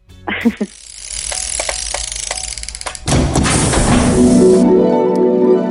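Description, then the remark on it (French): A short electronic announcement jingle played before the winner is announced: a rushing, hissy swell with a few clicks builds into a louder, sustained buzzing synth tone that fades out near the end, with no voices. “Ah, attention, la petite musique.”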